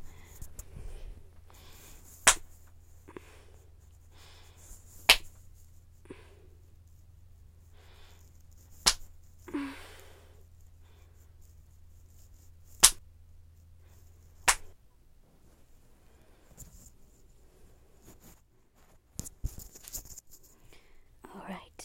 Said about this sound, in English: So, five slaps to the ass. Here we go.